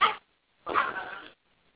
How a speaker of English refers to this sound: Well, somebody's got a dog.